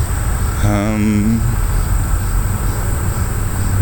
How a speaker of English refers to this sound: able to hear it here anyway due to, one, the noise of the interstate about 100 yards to my right, and all the cicadas and other bugs that are making up the OPPD chorus.